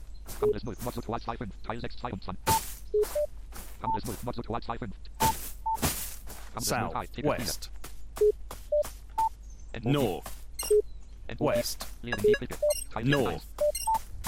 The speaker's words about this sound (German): Hier ist der Handyvogel. Aber der scheint nur ein ambientes Sound zu sein. Oder?